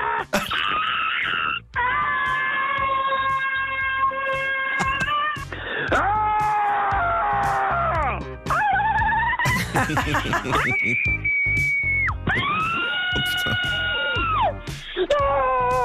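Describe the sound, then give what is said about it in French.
A string of long, sustained human screams follows one after another with only brief breaks. Different voices shriek and wail loudly through a narrow, tinny telephone line. “C'est que des cris, il n'y a pas d'insultes. Il n'y a que des cris.”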